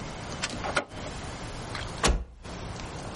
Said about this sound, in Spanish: Saca la silla portabebés del maletero. La observa divertida. Cierra el maletero.